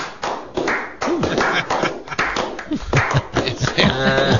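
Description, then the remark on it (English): A large crowd claps and cheers loudly and continuously, a dense wash of hand claps with shouts and whoops rising toward the end, like an arena audience. “Like a hockey crowd.”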